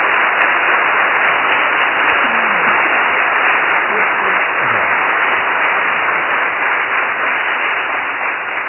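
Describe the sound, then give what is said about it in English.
A large crowd at a church service applauds two people for their work on a play, in a dense, steady roar of clapping that holds loud and even for the whole stretch, with a few faint voices calling out underneath. “can we give them a round of applause for all they do?”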